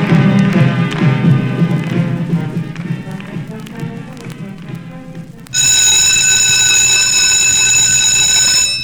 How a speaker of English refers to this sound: The bell rings, signaling the end of second period and the beginning of snack.